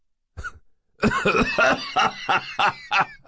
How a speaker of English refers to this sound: a long, dry laugh that dissolved into his usual hacking cough.